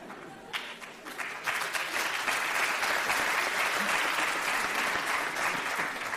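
Steady applause from the women in an audience, a dense patter of many hands clapping that starts thinner and swells to a full, even level for several seconds.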